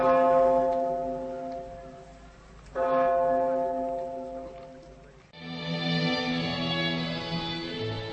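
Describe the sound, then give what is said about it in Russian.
A heavy memorial bell tolls slowly over the former School No. 1 in Beslan at 9:15 on 1 September: three resonant strikes a few seconds apart, each ringing out and fading into the next. No voices, just the deep, sustained clang hanging in the air. “В 9 часов 15 минут 1 сентября нынешнего года над зданием бывшей первой школы номер 1 в Беслане раздались удары колокола.”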